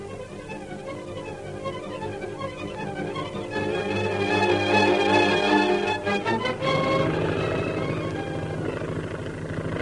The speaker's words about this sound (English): A few hours later, the plane piloted by Derek Bluger roars in from the hill. Lin Fu and Shanghai Lil watch it circle for a landing.